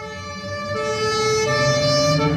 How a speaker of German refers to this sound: Mit Blaulicht und Martinshorn zum Einsatzort. Davon träumen viele Kinder.